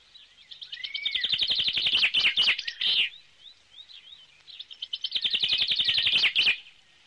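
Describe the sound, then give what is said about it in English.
Two bursts of rapid, high-pitched bird chirping, each a quick trilling run of notes, separated by a brief lull of softer scattered tweets. Fairly loud, with no talking. “Where's the bird?”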